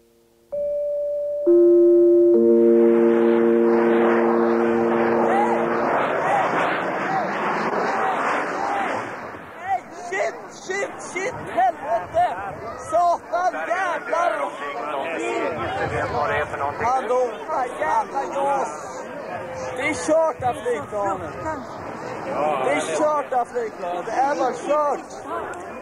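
A large outdoor crowd of hundreds of thousands, gathered in central Stockholm, Sweden, in August 1993 to watch an air show that included the new JAS plane, murmurs and chatters in a dense, steady hubbub for over twenty seconds, preceded at the start by a short series of clear, sustained electronic tones.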